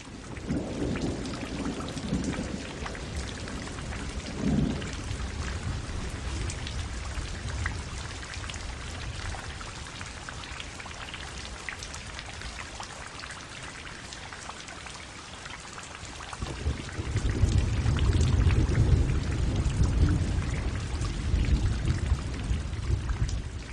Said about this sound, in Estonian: Vihma sajab nagu oa varrest. Ahel rabistavad vihmapiisad õige tugevasti vastu akent. Kasaknaklaasid peavad vastu.